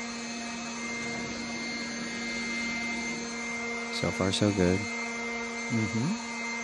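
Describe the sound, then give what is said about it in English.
A voice imitates a leaf blower being used to clean the inside of a house, a steady, loud whooshing drone that holds throughout, while a person briefly speaks over it near the end. “If you've ever used a leaf blower to clean the inside of your house, you might be a redneck.”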